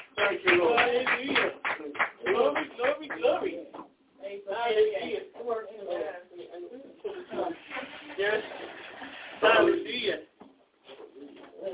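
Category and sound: crowd, audience hand clapping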